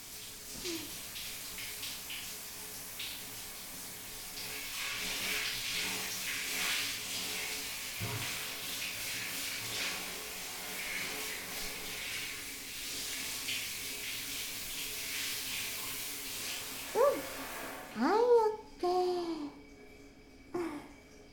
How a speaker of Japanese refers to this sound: はーい、シャワーかけるよ。目をつむって。